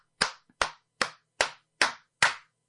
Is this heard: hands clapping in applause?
yes